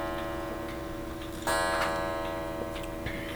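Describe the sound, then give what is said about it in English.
A steady clock ticking with a regular rhythm runs over a sustained humming tone, marking the top of the hour at 11 o'clock, with a brighter burst of sound joining briefly in the middle. No one speaks. “Yes, it is 11 o'clock.”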